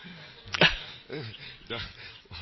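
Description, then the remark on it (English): A person imitates a dog barking, voicing a rhythmic series of short, punchy bark-like syllables in pairs, loud, with brief pauses between them. “The dog? Bow wow, wow wow. Bow wow, wow wow.”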